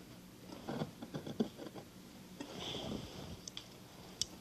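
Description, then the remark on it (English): Quiet crunching snips of big, heavy scissors cutting fabric across the bottom of a sleeve and down the side: a quick run of short cuts, then a longer dragging slice and a couple of sharp clicks as the blades close, with no talking. “Boy, these are big, heavy scissors.”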